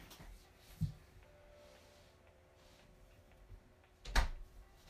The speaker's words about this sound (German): ich mache einmal kurz meine Tür zu.